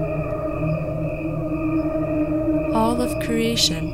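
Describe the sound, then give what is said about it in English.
A recording of crickets slowed down to the equivalent of a human lifespan, crickets only with no instruments or voices added. Their chirping is stretched into a continuous, layered harmonic drone that sounds almost like voices singing, with brighter fluttering pulses rising near the end. “One is played at regular speed and the other is a slowed down version.”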